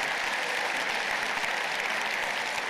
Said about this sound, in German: Die Reaktion hier, genauso wie im Saal da im Audidom, es gab Applaus.